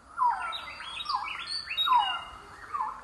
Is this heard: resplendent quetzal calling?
yes